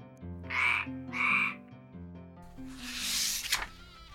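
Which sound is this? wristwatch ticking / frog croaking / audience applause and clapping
frog croaking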